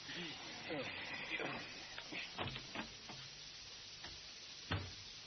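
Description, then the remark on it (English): A loose door bangs and footsteps sound: a handful of sharp, irregular knocks and thuds, the last one loudest, over a steady background hiss and faint murmuring. “A loose door banging. And footsteps.”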